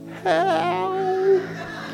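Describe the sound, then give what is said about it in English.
A man's voice imitates a whimper: one drawn-out, quavering whine with a wobbling pitch that holds for about a second before fading into quiet. “My anger kind of turns to a whimper and it goes like this.”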